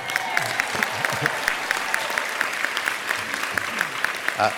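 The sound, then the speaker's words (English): An audience applauds a speaker's mention of his coming 35th wedding anniversary, many hands clapping in a dense, even patter that holds at a moderate level throughout, with a faint murmur of voices beneath. “I was wondering if that would get an applause.”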